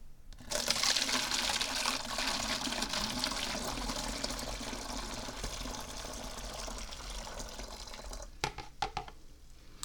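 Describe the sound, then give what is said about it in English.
Hot tea is poured steadily from a teacup into a funnel set in a bottle, a continuous splashing and gurgling of liquid for several seconds, ending in a few short trickles and drips. “Then we grab teacup number one and pour the tea into the funnel.”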